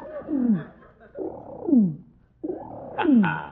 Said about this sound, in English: I was just watching that pigeon, Curly. Look at him. He keeps walking toward you.